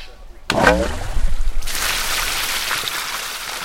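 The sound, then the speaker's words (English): A valve on the spout of a rainwater tank, fed by a roof gutter and PVC pipe at a garden cabin in Occidental, opens with a brief creaky squeal. Water rushes out in a steady, hissing gush at an even, fairly loud level as the tank is drained for cleaning after the first rain. “draining the tank to clean it out”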